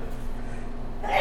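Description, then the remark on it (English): A single sudden sneeze bursts out near the end, sharp and breathy, after a stretch of quiet room hum with no talking. “Bless you.”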